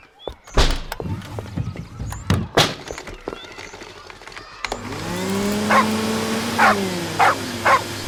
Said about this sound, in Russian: ну чего ты разлаялась? Это всего лишь пылесос. Да она все время на него лает. Ей почему-то этот звук не нравится.